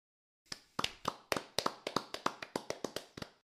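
scattered applause

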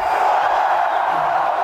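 crowd yelling

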